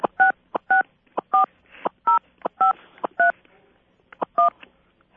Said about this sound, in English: We have a four-year-old in the house. Can you tell? I could certainly tell. I had one of those for a lot of years. Loves dialing the phone.